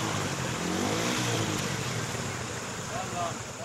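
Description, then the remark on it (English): A car engine revs steadily as the car presses on through shallow water to continue its journey, with a continuous loud wash and splash of spray lasting a few seconds. “Some press on with engine revving, and are able to continue their journey.”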